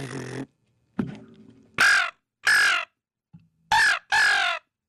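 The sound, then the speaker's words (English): A Hunter Specialties Slammer bite-and-blow handheld crow call blown with the tongue rolled, in harsh, raspy caws, two pairs of loud bursts with short pauses between, plus a brief rough honk near the start. “And this one, this is just our bite and blow for hunter specialties, our slammer crow call.”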